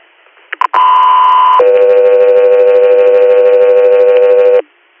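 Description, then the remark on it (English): Two quick clicks, then a loud steady electronic tone holds for about a second before dropping to a lower sustained tone for three seconds: a two-tone radio dispatch paging alert sent to Guthrie Air, with no talking. “Guthrie Air, stand by for tones.”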